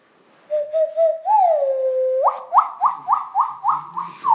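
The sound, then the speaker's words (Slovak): An indigenous (Indian) nose whistle, not an owl, played in a gentle version, gives hollow, owl-like hoots: a few soft pulses, a long rising and sliding tone, then about seven quick upward-swooping notes in a steady rhythm, with no talking. “Nie sova. Nie. Toto je nosová pišťalka indianská.”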